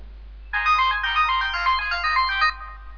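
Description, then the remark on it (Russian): A melodic alarm clock ringtone plays for about two seconds, a bright, tuneful electronic chime sequence, fairly loud, starting abruptly and stopping cleanly with no voices. “Как музыкально звонит его будильник, надо сказать.”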